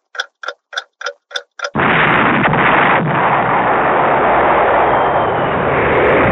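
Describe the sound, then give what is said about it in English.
Six quick, evenly spaced ticks lead into a toilet exploding on the Nevada salt flats, a sudden, deafening blast whose roar and heavy rumble sustain for several seconds without fading. No voices are heard. “What on earth caused that explosion?”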